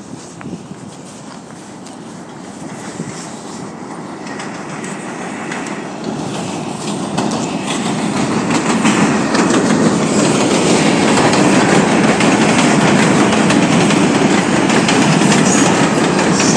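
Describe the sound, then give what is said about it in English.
A New York subway train pulls out of the 42nd Street Port Authority station and gathers speed toward Manhattan, its rumble and rattle growing steadily louder over about sixteen seconds, with rhythmic clacking of wheels on the rails and no one talking. “Staying clear of the closing doors, we're out of here.”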